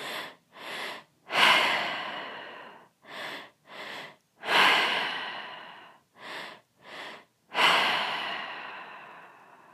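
Deep, rhythmic breathing during a guided breathing exercise: two quick, sharp inhales followed by a long, rushing exhale that fades out, repeated three times in a steady cycle with no talking.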